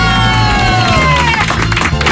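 An audience bursts into steady applause and loud cheering for a man who slipped on pumpkin residue and crushed nine pumpkins in his fall, with a few high whoops riding over the dense clapping throughout.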